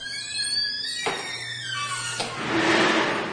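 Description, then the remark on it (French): A heavy door in a disused factory creaks as it swings, then shuts with a solid slam, followed by a hollow, reverberant rumble fading. No one speaks. “Referme la porte derrière nous.”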